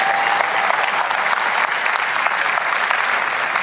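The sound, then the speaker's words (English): A crowd applauds steadily, a dense wash of many hands clapping at once with no gaps, fairly loud and even throughout, without any voices over it. “Now, I appreciate the clap, clap, clap, clap, but well, go ahead.”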